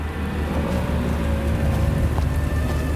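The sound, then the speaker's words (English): A steady, dense wash of heavy, freezing rain pours down without pause, with a deep low rumble and faint humming tones running beneath it. No voices are heard. “he can't hear much through the downpour.”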